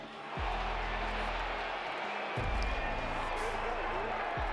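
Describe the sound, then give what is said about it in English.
A large outdoor golf gallery roars and applauds in a steady, sustained wash of cheering and clapping, celebrating a player's first PGA Tour win, loud and continuous throughout, with a deep rumble underneath. “Let's get that celebration with Ted Scott. Listen to the crowd.”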